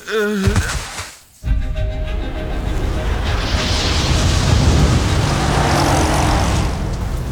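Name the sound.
car engine driving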